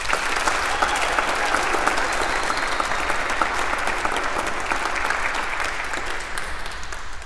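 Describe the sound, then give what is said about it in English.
A crowd in a church claps steadily and densely for several seconds, giving thanks for a brave message just shared: a loud, continuous wash of many hands with scattered cheers mixed in, holding level before easing slightly at the end. “Sometimes people think that they can't clap and cheer in church”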